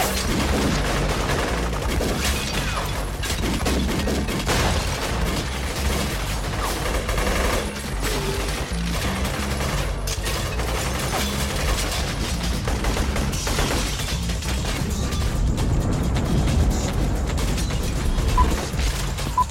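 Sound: gunfire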